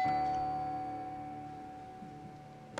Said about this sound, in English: The ward was very quiet. You could have heard a pin drop. Nothing sounded until I heard the sound of the elevator and it stopping on four.